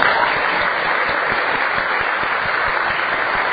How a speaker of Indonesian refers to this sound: Ya, tepuk tangan dulu.